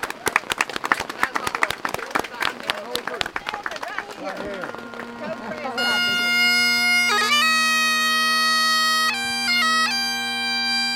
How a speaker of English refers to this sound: 40 years ago today, we came here as an organized group. I think we ought to give the ladies that started this a hand of applause.